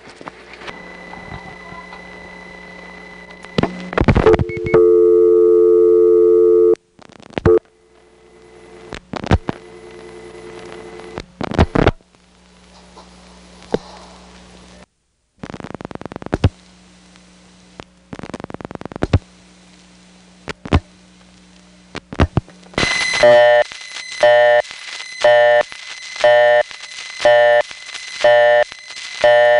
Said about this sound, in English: High-pitched crackle that you hear in the background of that busy signal is very typically a crossbar 5 sound. 422 and 424 are the crossbar 5 codes in this very same building